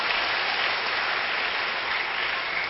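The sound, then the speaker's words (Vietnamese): A crowd claps steadily for a few seconds, a dense, continuous wash of applause with no voices over it. “Xin tất cả dành tràng pháo tay để khen ngợi mình.”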